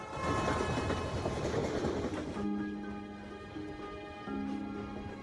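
train riding on rails

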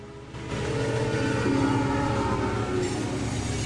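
train passing

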